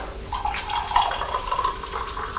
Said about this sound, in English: I'm just going to pour the tea now.